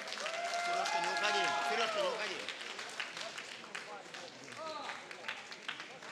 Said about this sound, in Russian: Еще раз, …, искупайте в аплодисментах!